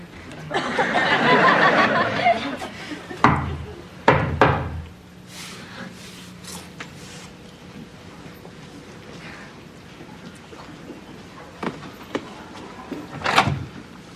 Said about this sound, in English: What's that? Their secret knock. It's not a secret anymore.